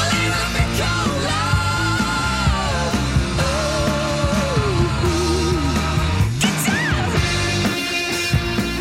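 A loud, dense rock track plays throughout, with a singer letting out a shouted, gliding vocal cry over driving guitars and drums.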